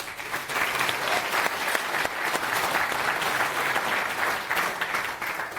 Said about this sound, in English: Round of applause.